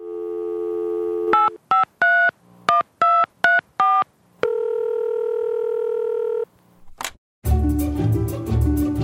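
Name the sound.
telephone dialing tones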